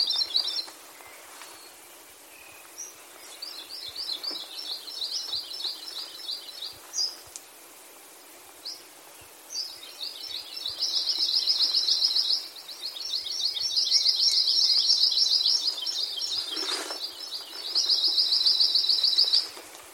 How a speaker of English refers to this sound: Before I close out this episode, I just want to share with you the songs of a few of these endangered birds.